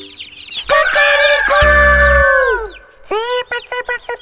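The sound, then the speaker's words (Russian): A rooster gives one long, loud crow that rises and then trails off. It's followed by a quick series of short, sharp clucks. No one speaks. “Петя петушок. Ку-ку-ку-ку-ку! Гребет ребешок. Ку-ку-ку-ку-ку! По два по двору и поет вот так.”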